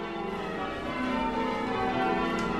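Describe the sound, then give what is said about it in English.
Church bells at St. Michael's church in Chagford ring in a continuous, overlapping peal, their tones blending into a loud, steady wash of sound with no voices. “one of the church bell ringers, has compiled a history of the church's bells”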